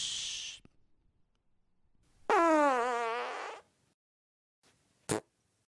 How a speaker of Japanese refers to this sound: 会場のちびっこ、騙されたな。これぞ、忍法、おなら返しの術。